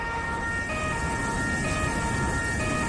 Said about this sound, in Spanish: Esas son las sirenas que continúan ahora mismo sonando sobre el terreno.